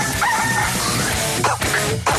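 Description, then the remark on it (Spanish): A rooster crows loudly over a dense, noisy musical backdrop, its strained cry rising and breaking in short bursts near the end; the crow marks the 'El gallo' segment on Radioactiva radio. “El gallo.”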